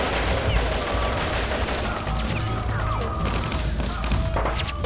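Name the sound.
gunshots fired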